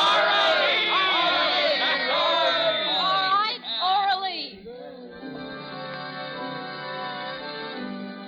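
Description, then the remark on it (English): A loud crowd yells and cheers, many voices overlapping in excited shouts for about four seconds, then the noise drops away into a quieter, steady sustained hum. “They're yelling for you”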